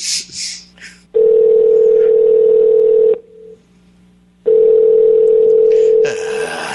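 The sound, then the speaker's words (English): Two long, steady electronic ringing tones over a phone line, separated by a short silent gap, loud, with brief rustling noise before and after, as a call to a metal supply business goes unanswered. “They don't pick up the fucking phone. Nobody fucking picks up the phone.”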